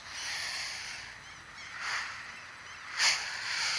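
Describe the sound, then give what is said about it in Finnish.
A person imitates the sea with breathy, hissing whooshes that swell and ebb in a few waves, with one sharper surge near the end. “Ja sitten meri.”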